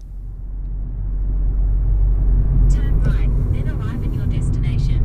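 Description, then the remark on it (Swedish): A car rolls slowly down a narrow gravel road leading to a farm surrounded by farmland and open meadows, a steady low rumble of engine and tyres with scattered crunching and rattling as it moves, heard from inside the car. “Jag rullar bilen sakta ner för den smala grusvägen som leder ner mot en gård i slutet av vägen som är omgiven av åkermark och öppna ängar.”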